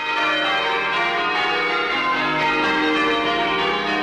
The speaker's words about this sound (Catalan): i neix amb la voluntat de preservar i recuperar els tocs tradicionals de les campanes, com aquest. A veure si el distingiu.